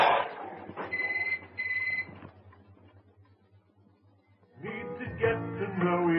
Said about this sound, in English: Go and answer the phone. Dinner can wait a minute or two.